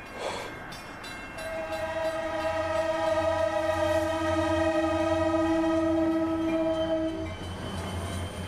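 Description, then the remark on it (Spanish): A locomotive approaches with a steady low rumble that swells, then its horn sounds one long, sustained, chord-like blast for about six seconds before cutting off as the rumble continues. “Estás cruzando las vías del tren y de repente tu auto se para en las vías mientras una locomotora se acerca a unos 100 kilómetros de distancia.”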